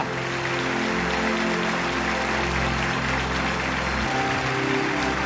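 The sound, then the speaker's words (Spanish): An audience claps steadily and densely for several seconds, a loud continuous wash of applause layered over sustained low musical tones, with no voices standing out. “Vamos, si quieres, ponte de pie y dale un aplauso grandioso al Señor de señores, al Rey de Reyes.”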